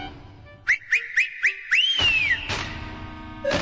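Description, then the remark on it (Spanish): A herding whistle: five quick, sharp upward chirps in a steady rhythm, then one longer sliding whistle that rises and falls away. It is loud, with no talking. “Y sí, allí estaban, en el valle, cientos de llamas arreadas por el dios enano y su inconfundible silbido.”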